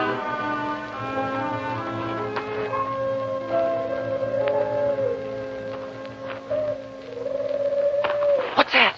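Wind howls at a graveyard at night in long, moaning tones that waver and slowly slide up and down in pitch, holding steady and fairly loud throughout before a few short clicks at the end.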